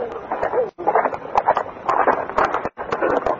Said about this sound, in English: I'm wondering who they might be or where I'll find them when I hear a horse. Heading my way. Step back in the shadows, put on the horse with me. I realize the rider is heading for the scene of the crime.